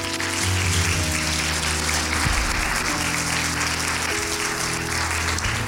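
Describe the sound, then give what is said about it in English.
A large church audience claps steadily for several seconds for the word of the Lord, a dense wash of applause over sustained low musical tones like an organ or keyboard underneath. “Can we clap our hands for the word of the Lord?”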